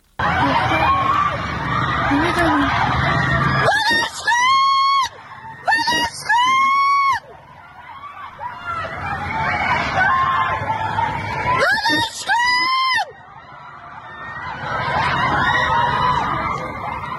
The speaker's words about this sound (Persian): تصاویری منتشر شد که ماموران در حال بازداشت تعدادی از دانشجویان هستند و دانشجویان هم از داخل خوابگاه دارن به این اقدام ماموران امنیتی اعتراض میکنن و فریادهای اعتراضیشون به گوش میرسه. صدای یکی از این ویدیوها رو میتونیم بشنویم الان.